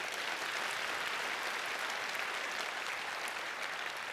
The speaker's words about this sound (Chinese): 好吧，为所有服侍弟兄们鼓掌一下吧。